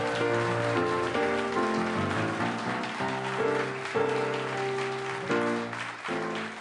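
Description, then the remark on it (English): An audience claps steadily throughout, a dense wash of applause for the town of the week, Munising, Michigan, mixed with loud, sustained instrumental music playing over it, with no voices standing out. “Round of applause for our town of the week.”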